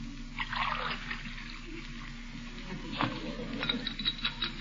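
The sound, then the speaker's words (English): A spoon stirs water in a glass, with a soft swirling wash and a few light clinks against the glass near the end. Quiet, with no talking. “What am I stirring it for?”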